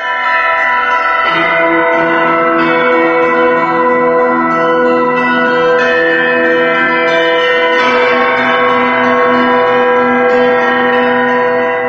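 Church bells ring out in a dense, continuous peal, several bells of different pitches overlapping and struck in quick succession, loud, with no voices.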